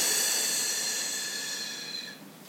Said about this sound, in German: Wir atmen wieder durch die Nase ein. Und wir atmen durch den Mund aus.